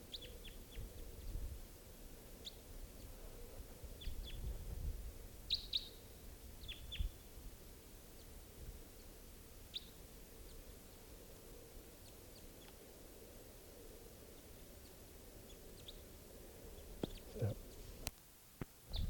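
A pair of wild birds, one on a mist net wire and the other up in a tree, give short, high chirps at scattered, irregular moments while someone tries to catch them, over a steady low rumble of background noise, with a few sharper clicks near the end.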